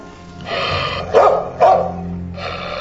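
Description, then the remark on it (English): A dog named Doyle barks during a Drug Enforcement Administration search of an apartment, two sharp loud barks in quick succession amid rough, sustained snarling vocal sounds, with no one talking. “Yeah, I don't see any tags on that dog.”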